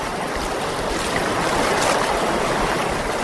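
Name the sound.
flowing river water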